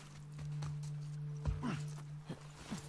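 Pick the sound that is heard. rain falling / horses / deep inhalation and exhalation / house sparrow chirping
horses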